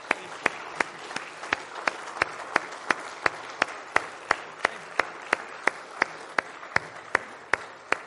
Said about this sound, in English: but we want to give them a round of applause. It is a huge accomplishment.